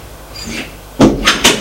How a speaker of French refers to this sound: Elle le précède. Elle ouvre une porte, ils entrent.